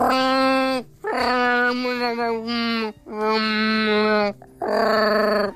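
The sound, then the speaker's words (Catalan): A person's voice imitates a Mallorcan cattle dog, giving several long, wavering howls broken by short pauses, with whimpering slides in pitch, loud with no other talk. “Una de les millors imitacions d'en …”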